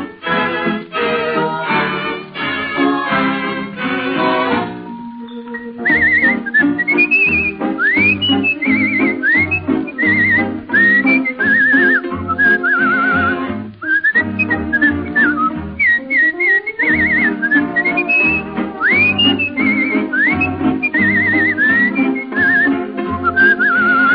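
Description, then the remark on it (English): A person whistles bird-like chirps and sliding trills in short repeating phrases over a steady, loud musical accompaniment in a 1936 song recording, starting after a brief instrumental opening, with no talking. “Sure, I'm whistling like a birdie in the trees.”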